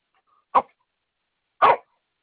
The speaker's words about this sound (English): Is that a dog barking? Yeah, I'm sorry. He's part Chihuahua, but he thinks he's a German Shepherd.